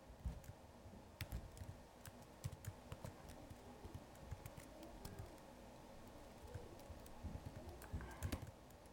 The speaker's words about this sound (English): I know you're tired from typing. Sorry.